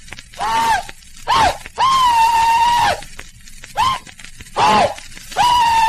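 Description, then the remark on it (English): A recorded rebel yell given by a Confederate veteran, from a copy held by the United Daughters of the Confederacy and played from a CD: a man's high, shrill whooping cries, about six in a row, short yips alternating with long sustained wails that dip in pitch, then hold steady, loud and alone. “finally saw some reference to the fact that the United Daughters of the Confederacy had a copy of a rebel yell given by a Confederate veteran.”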